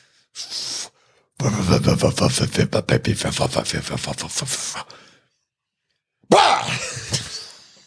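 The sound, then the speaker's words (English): A voice imitates a car backfiring: a short breathy burst, then a long, loud sputtering rattle of rapid pops, and after a pause one more sharp vocal blast. “I believe it's actually described as sounding like a car backfiring, which is notably quite loud, like a big crack.”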